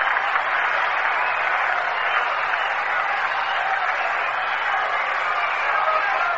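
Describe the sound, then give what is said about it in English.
A large stadium crowd at the Polo Grounds baseball game applauds steadily after a ground ball to third is thrown to first for an out, a dense, even wash of clapping that holds at a constant level for several seconds with no speech on top. “An appreciative response from the crowd here at the Polo Grounds.”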